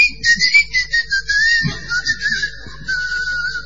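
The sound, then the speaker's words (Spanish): A whistling keychain gives off a shrill, steady whistle that pulses and warbles in quick bursts for a few seconds, sliding slightly lower in pitch, loud with no talking. “El llavero ese que tiene viene con un chiflido, vos lo perdés.”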